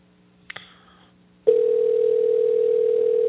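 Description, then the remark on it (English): A couple of quick clicks on a phone line, then a loud, steady electronic tone starts and holds unbroken, like an outgoing call ringing on the other end. No one speaks. “I hear the ringing.”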